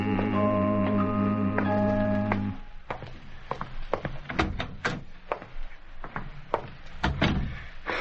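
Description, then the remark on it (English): A short held musical chord gives way to the door of a grocery store being locked, then a run of sharp, irregular knocks as footsteps climb the flight of stairs that lead to a parlor, with no talking. “At the moment, Eli has just locked the door to his grocery store, is climbing the flight of stairs that lead to his parlor.”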